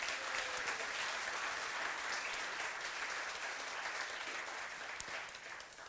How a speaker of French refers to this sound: Je vous souhaite la bienvenue. Est-ce qu'on peut aussi les applaudir et leur souhaiter la bienvenue?